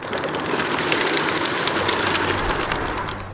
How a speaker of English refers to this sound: Wild flapping erupts from a city park. A flock of multicolored birds lifts off together, circles, and settles again. As it lands, the mixture of bluish-gray, white, and cream separates into individual pigeons bobbing their heads and pecking.